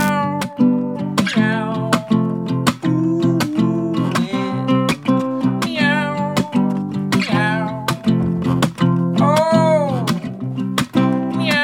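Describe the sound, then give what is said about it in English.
A voice imitates cat meows in a silly song, with several drawn-out, bending mews sung over a steady, loud musical backing that keeps a regular beat throughout. “I liked your cat sound effects.”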